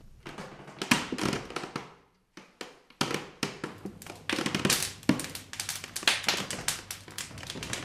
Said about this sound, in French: Une symphonie de craquements. Seuls les bons pains font ces bruits-là.